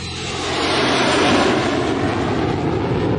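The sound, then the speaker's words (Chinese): A hijacked airplane, with four crew members held as hostages and the hijacker Cooper aboard, takes off again with a loud, broad engine roar that swells over the first second and then holds steady, with no voices. “连同四个机组人员作为人质，富柏带着他装满200,000赎金的背囊、四个降落伞以及他装有炸弹的黑色公文袋再次升空。”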